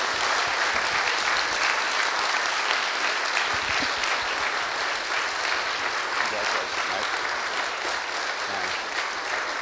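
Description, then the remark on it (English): A church audience applauds together for God and a new pastor for community ministry, a steady, dense wash of clapping that stays loud and even for nearly ten seconds, with no voices rising above it. “I think it's appropriate to clap for God”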